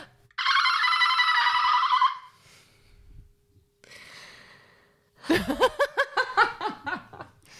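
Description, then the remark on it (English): A person imitates a dolphin with a loud, high-pitched squealing whistle, then a softer breathy squeak, followed by a burst of rapid, pulsing chatter that sounds close to laughter. “You can make your dolphin noise if you want.”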